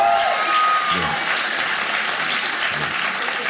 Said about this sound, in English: Hey, clap if you got crazy family members. If you have crazy.